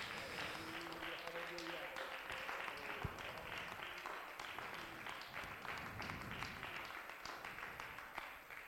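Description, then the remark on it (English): A large audience at a church service stands and applauds the Lord steadily, a dense wash of many hands clapping at once with some voices mixed in, sustained at an even level throughout. “Why don't you applaud the Lord for his goodness?”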